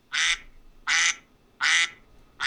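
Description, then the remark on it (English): A duck quacks four times in a steady rhythm, each call loud, nasal and raspy, spaced about three-quarters of a second apart with quiet gaps between. “No, those are ducks, I'm sorry.”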